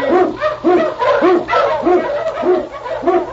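King, a husky Eskimo lead sled dog from the radio show Challenge of the Yukon, barks loudly, about seven sharp barks in a steady, even rhythm, with a low hum running underneath.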